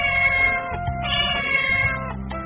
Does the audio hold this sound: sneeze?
no